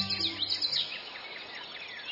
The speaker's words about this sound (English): Hey, what was that? A tiny bird just whizzed by like a bullet. There it is, over by those scarlet flowers hovering. It's a hummingbird.